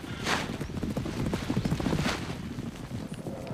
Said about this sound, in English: He wheels around to see behind him the band of wild horses run past.